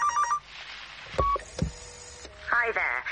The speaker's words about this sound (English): It was probably 3 o'clock when the phone rang.